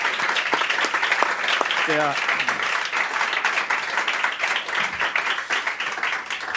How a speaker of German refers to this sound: Also unser Applaus gilt Ihnen.